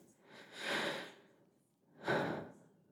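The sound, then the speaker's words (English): A man's slow breathing as he drifts off to sleep: a long, airy exhale, a pause, then a second breath starting sharper, fairly quiet with no talking. “The familiar change in his breathing tells me he's fallen asleep.”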